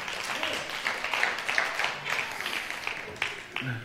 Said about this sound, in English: So round of applause for my impactees.